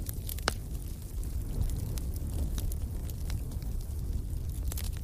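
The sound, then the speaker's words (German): A fireplace fire crackles steadily in a hotel by the sea, with scattered sharp pops and snaps over a low, continuous rumble of burning wood. “Lass uns doch zum Kamin gehen. Dort kannst du dich aufwärmen und dem beruhigenden Knistern des Feuers lauschen.”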